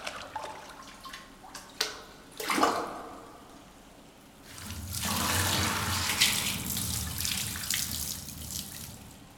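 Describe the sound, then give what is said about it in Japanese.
A few light splashes and drips, then a loud, steady rush of water poured down over the head for several seconds as it spills and splashes over hair during hair washing. No one speaks. “しっかりと目をつむって。せーの。ザバーン。”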